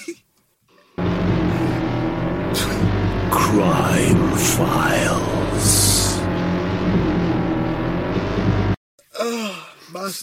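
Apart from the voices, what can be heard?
motorbike engine revving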